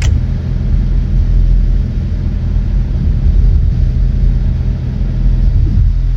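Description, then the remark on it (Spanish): A steady, loud mechanical rumble of aircraft wing flaps extending, a deep continuous drone with a faint whir above it, holding evenly for several seconds with no talking. “Escuchen cómo hacen las alas cuando se despliegan. Es otro sonido.”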